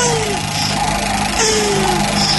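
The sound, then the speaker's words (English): Turtles mating, a sound sampled for the raptor sound effects in Jurassic Park: a loud, continuous rasping groan with a rough, engine-like drone, overlaid by a couple of faint sliding whines that dip in pitch. No voices. “So now I want you to know, when you picture those turtles having sex with that sound, just know that's also an angry raptor.”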